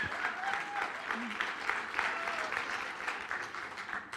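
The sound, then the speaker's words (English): A room full of people claps steadily in a dense, sustained wash of applause, with a few faint whistles and cheers rising over it, heard from within the crowd. “Please give a round of applause for my favorite artist.”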